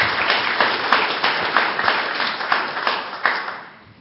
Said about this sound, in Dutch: Nou, ik vind dat iets, daar mogen we wel even voor klappen, want dat hebben we toch met elkaar gedaan.